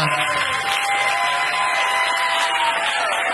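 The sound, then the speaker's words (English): An audience claps steadily for a few seconds, a dense, even wash of applause at constant loudness with a faint whoop or two mixed in, and no talking over it. The applause is for the guests of a live show at the Secret Group. “One more round of applause for all of my guests”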